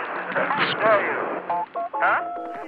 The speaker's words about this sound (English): But as human switchboards were replaced by mechanical systems, different noises were used to trigger the switches.